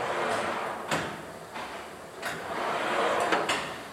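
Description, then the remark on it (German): A steady mechanical whir and rumble of an offset press's print table in a graphics workshop, sliding back and forth at the push of a button, punctuated by sharp clacks at each end of its travel, with no voices. “Auf Knopfdruck bewegt sich der Drucktisch hin und her.”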